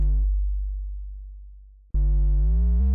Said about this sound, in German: Ein Bass, ein Sub-Bass, der so ein bisschen verzerrt ist, der klingt dann so.